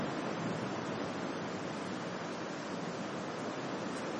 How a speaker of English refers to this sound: Can everyone still hear me in spite of the thunder? Can you still hear me? Maybe turn it up a little louder, because there's rain and thunder.